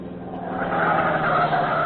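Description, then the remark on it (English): A pursued car's engine roars and rises in pitch as it swings around yet another corner at speed, with a hint of tire squeal, steady and loud throughout the short burst. “Look, other car turning again.”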